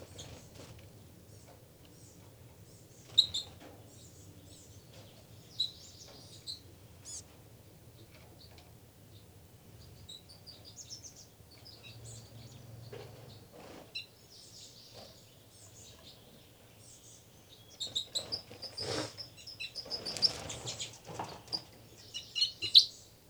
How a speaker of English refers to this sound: Another fight between the birds.